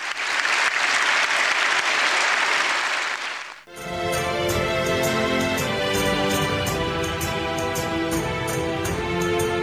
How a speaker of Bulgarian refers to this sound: Думите на папата предизвикаха спонтанни овации от залата.